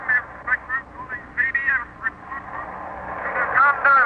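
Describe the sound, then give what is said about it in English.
Crackling radio static interference with warbling, whistling tones and garbled voice-like bursts, steady at moderate loudness and growing busier toward the end; strange patterns of static coming in from the Western Ocean. “It may be nothing but those strange patterns of static coming in from the Western Ocean.”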